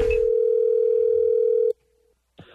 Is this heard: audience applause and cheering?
no